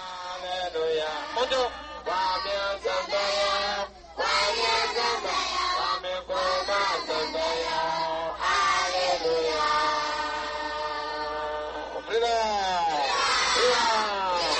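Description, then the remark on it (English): A large crowd loudly shouts the slogan "freedom", the slogan of the Convention People's Party, in long, sustained bursts of many voices, the chant rising and breaking off in waves, filling the whole clip. “The word being shouted is freedom.”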